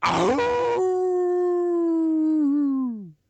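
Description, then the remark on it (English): A person imitates a hound dog's howl: a single sustained, tonal wail that starts with a breathy, rough onset, holds steady for a few seconds, then slides downward and fades out. Loud. “So if you would be so kind to, you know, ingratiate us with your best howl, we'll go ahead as we get ready to close out.”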